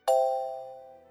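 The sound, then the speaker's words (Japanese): A single bright chime rings out with a sharp onset, then its clear tone slowly fades away over about a second, heard alone with no talking; it signals the time to answer in a dialect vocabulary practice exercise. “のチャイムの後に、車、船、飛行機のように標準語で指示しますので、のチャイムの後に指示した標準語と対応するうくむにの単語を使って回答しましょう。”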